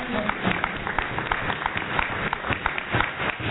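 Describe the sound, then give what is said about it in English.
A crowd applauds the Lyme Masters and Lyme Juniors, who represented Barbados, with steady, dense clapping that holds at an even level for the whole stretch, the sharp claps blurring into a continuous rattle. “I think they deserve a round of applause because they represented Barbados.”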